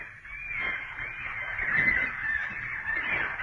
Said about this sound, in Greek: Διώξτε αυτά τα πουλιά από πάνω μου! Δύο μέρες τώρα μετράνε τα βήματά μου. Αφουγκράζονται τους τύπους της καρδιάς μου. Περιμένουν την τελευταία ανάσα μου.